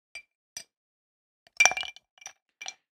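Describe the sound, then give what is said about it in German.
Several ice cubes clink and rattle into a glass: two light taps, then a louder cluster of overlapping clinks, followed by a few scattered softer ones, with no talking. “Ja, aber Moment, ich muss ja kurz diese Eiswürfeleinheit.”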